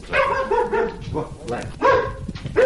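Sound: dog barking at visitors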